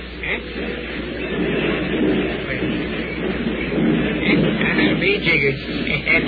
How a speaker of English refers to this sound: Be jiggered. That sounds like a train